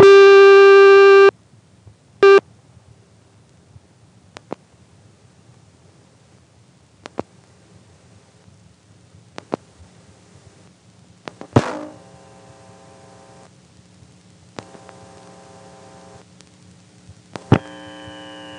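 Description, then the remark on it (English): A telephone ring code on a CX-1000 switch party line, after dialing a last digit of 7, sounds in a long-short cadence: one long buzzy tone, then a brief burst. Afterward a steady line hum remains, with scattered clicks and faint tones. “Anyway, let's dial the last digit 7 and hear yet another ring code probably never used, but it's waiting there just in case the phone company wanted to actually make the party line from hell.”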